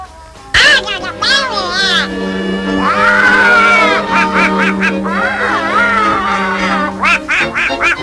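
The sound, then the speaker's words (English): Donald Duck's garbled, quacking cartoon voice chatters loudly for several seconds, in raspy bursts that rise and fall in pitch like unintelligible excited speech. “Donald Duck made his debut here this date.”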